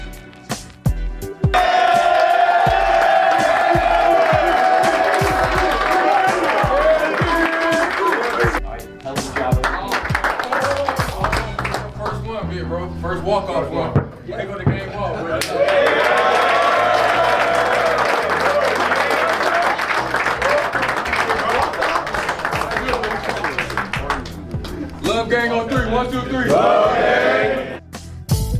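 A rowdy crowd of men inside the Chicago Bulls locker room after a victory cheers, whoops and claps continuously for nearly thirty seconds, loud and dense, with overlapping shouts and scattered clapping swelling in waves after a brief lull.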